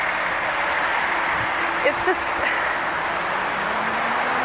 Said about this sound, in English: I mean, let alone, I really wish this bus would get the fuck past me.